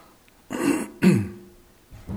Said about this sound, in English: Probably hear me clearing my throat and things more than you'll hear me hear my voice.